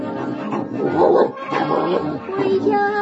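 A huge shaggy dog growls steadily for a few seconds, a fairly loud rumbling snarl that takes on a thin whining edge near the end.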